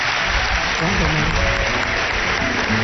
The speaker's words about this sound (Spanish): Os pido un aplauso para Anne Germain.